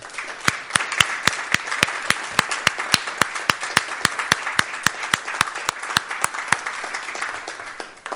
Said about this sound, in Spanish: un aplauso a Salud, que aún sigue ahí enfrente de la batalla. Por favor, un aplauso para ellos. Gracias.